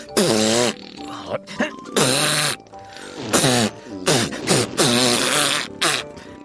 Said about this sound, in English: It wasn't me! It was the monster! There is a monster on the couch who farts.